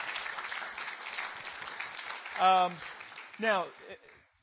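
An audience applauds with a dense, steady wash of clapping, punctuated by two short, loud whoops or cheers near the end before the sound tapers off.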